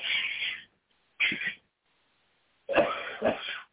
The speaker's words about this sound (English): It causes me to cough. It won't go down. It won't come up.